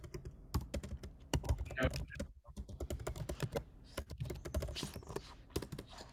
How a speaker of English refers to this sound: Yeah, we just hear the keyboard.